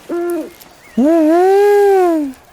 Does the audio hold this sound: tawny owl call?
yes